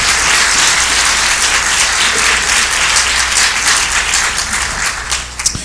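A church audience applauds for the worship music at a service, a dense wash of many hands clapping at once that stays loud and even throughout, with a few sharper claps standing out near the end.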